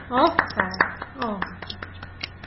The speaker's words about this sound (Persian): آفرین بچه ها تشویق کنیم روشن.